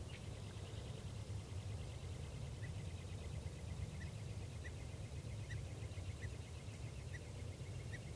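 A male songbird, perched in a tree right above a net, repeats short, faint song notes at a steady pace against a constant low background hiss and rumble. No one speaks.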